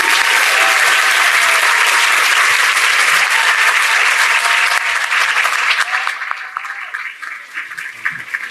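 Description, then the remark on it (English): A large audience at a library event claps loudly and steadily for the panelists and moderator coming up, a dense wash of applause that holds strong for several seconds before thinning out and fading toward the end. “Let's give them a loud round of applause.”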